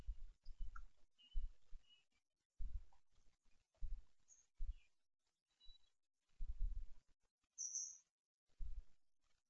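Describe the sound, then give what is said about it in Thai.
Faint, scattered bird chirps, a handful of short high tweets at irregular intervals, set against intermittent low rumbling bursts. No one speaks. “เวลาเสียงนกดังไหวไหมจิตไหวไหมเวลาเสียงกระทบหูจิตไหว”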